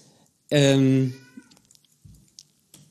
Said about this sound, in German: So, ich glaube, deine Katze hat Hunger. Ich höre sie die ganze Zeit und es fällt mir schwer, mich jetzt noch weiter auf das Gespräch zu konzentrieren.